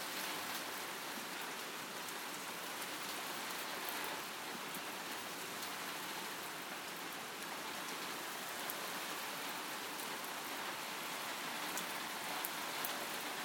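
torrential downpour of rain

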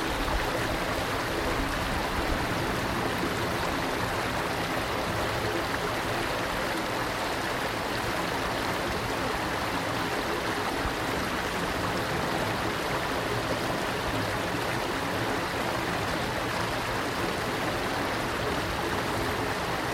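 flowing stream water

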